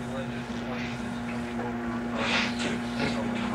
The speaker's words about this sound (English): Plane coming in over RB6.